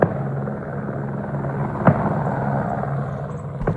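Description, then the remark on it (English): A helicopter carrying shooters culling deer drones steadily overhead above farmland near the town of Harvey, with a low, pulsing rotor hum, and a single sharp gunshot crack cuts through midway. No one speaks. “Having choppers flying around over your property, shooting multiple rounds in quick succession, using distress noises to spook the deer out of heavy cover.”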